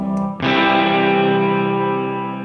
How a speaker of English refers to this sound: Where I just double up on the reverb. So this is just the reverb. And with this.